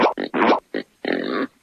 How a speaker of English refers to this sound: A pig says.